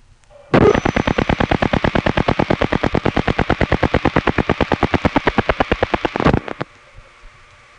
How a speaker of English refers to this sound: What I really needed the callback circuit for was to make a reverting call to our own phone. Here's what it sounds like when it comes in.